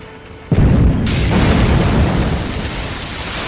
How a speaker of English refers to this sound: I can't believe it, ladies and gentlemen. The mega whale just exploded.